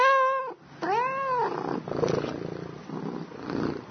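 A Persian cat lets out two loud, drawn-out meows, one after another, followed by a low, rough rumbling purr that continues to the end.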